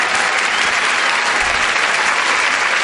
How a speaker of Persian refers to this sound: هر کی عاشق اول فاز اون دستای قشنگ بزنه